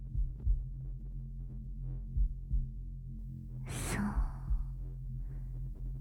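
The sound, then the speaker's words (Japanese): Deep, muffled thumps of the speaker's own heartbeat in slow, steady double beats, with a soft breathy sigh and a brief murmured word partway through. “今聞こえる鼓動の音、私の心臓の鼓動の音、これに合わせて”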